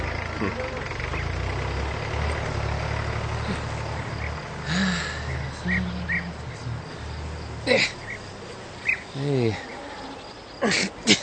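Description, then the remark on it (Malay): A tractor engine runs steadily with a low, rumbling idle throughout, mixed with a constant buzz of insects and a few brief vocal sounds near the end. “Naja, der Traktor.”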